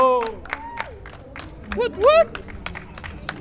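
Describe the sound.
Scattered hand claps from a small audience mix with excited voices whooping and cheering as a guest singer is welcomed on the show Hablando Pop. A couple of rising shouts stand out midway, and the clapping stays fairly sparse throughout.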